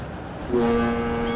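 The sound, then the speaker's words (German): Busy ambience of the port of Hamburg, operating around the clock, with ocean ships unloaded and containers stacked by mobile cranes; a steady rumbling wash, then a low, loud ship horn sounds midway and holds a single sustained, droning note to the end. “Der Hamburger Hafen. Hier ist rund um die Uhr Betrieb.”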